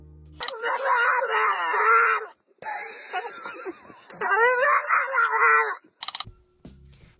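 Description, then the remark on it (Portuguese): A person's voice imitates the bark of a funny-barking dog seen in a video: three long, warbling, strained yelps in a row, fairly loud, with a couple of sharp clicks at the start and end. “É que eu tava vendo um vídeo aqui de um cachorro que late engraçado, sabe?”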